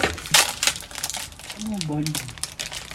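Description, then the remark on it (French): Irregular squishy crinkling bursts as about 150 grams of tamarind pulp is mashed and dissolved in a bowl of water and its seeds removed, with a brief voice murmuring partway through. “Donc, il y a un carré tamarin, il s'apprend disons la moitié, mais ça délaye il y a un bol de l'eau, il enlève le grain, et après en moins en dernier, il rajoute mon feuille caloupilée.”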